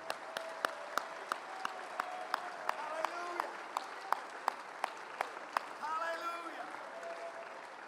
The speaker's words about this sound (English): Let's stop for a minute, clap our hands unto God, lift up a voice of praise.